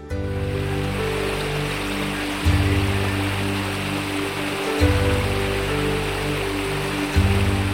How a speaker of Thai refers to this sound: น้ำตกเอราวัณสวยมากเลยเรามาเที่ยวกันเป็นชั่วโมงแล้วมั้งเนี่ย